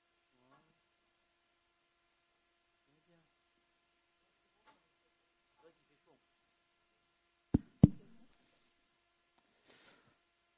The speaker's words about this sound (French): pour ouvrir les trucs d'en haut, là. Pour ouvrir le haut, les fenêtres du haut.